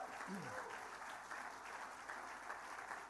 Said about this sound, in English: Best Specialist Music Programme. Good luck to all of them. Round of applause for your top five.